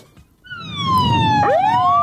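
An ambulance siren wails in loudly after a brief quiet moment, its falling tone joined near the end by a second sweeping wail, over a low rumble of traffic.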